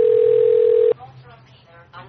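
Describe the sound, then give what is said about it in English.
A loud, steady telephone tone holds for about a second as a call comes in on a cell phone, then cuts off abruptly as the line connects on speaker and voices begin talking. “He's calling the cell phone there.”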